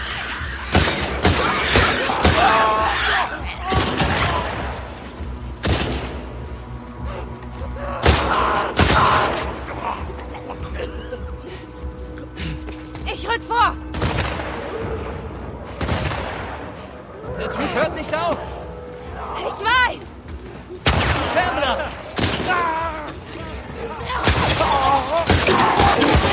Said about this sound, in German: Weitere Infizierte kamen auf die beiden zu. Von ihrer Deckung aus erschossen sie ihre Gegner.